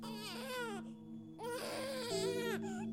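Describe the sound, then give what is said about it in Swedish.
A baby at home cries in loud, wailing bursts, three strained sobs separated by brief gasping pauses, with no other voices. “Men sen började bebisen gråta.”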